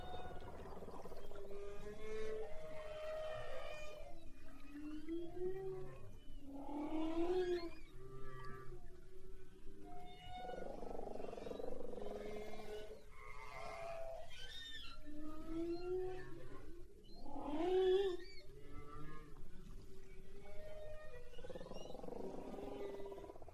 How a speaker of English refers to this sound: Let's listen to this recording of the humpback whale.